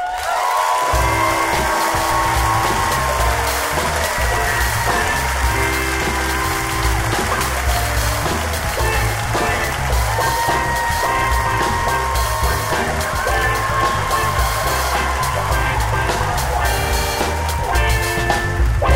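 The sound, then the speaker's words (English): An audience claps and cheers steadily and loudly for the whole stretch as Oakland storyteller Don Reed is introduced, the dense applause blending with upbeat music that carries a thumping, repeating bass pattern. “Clap for you.”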